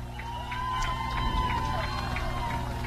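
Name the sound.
stadium crowd cheering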